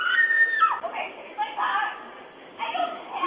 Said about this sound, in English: A nearby doorbell camera captured the desperate cries, tearing through what was a quiet afternoon near Lake Nokomis.